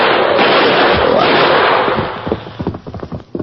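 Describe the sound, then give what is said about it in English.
A loud, dense burst of rapid gunfire fired at a charging grizzly bear roars for about two seconds, then breaks into a quick series of separate sharp cracks and pops that taper off unevenly. “Two arrows, four bullets in them.”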